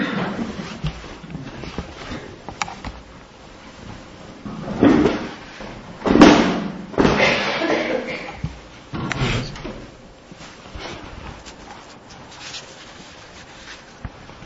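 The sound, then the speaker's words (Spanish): A door is handled and pushed shut, with shuffling, creaking and a couple of dull knocks over several seconds, ending in a soft thud as it closes. “Voy a cerrar la puerta porque creo que aquí hay gente.”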